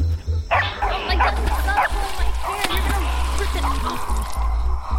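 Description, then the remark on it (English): Several lion dogs bark in quick, overlapping bursts, loud and insistent, forcing a creature back, over a steady low rumble and a watery, splashing background. “Whoa, what are the lion dogs doing? It's like when they bark, it forces the creature back.”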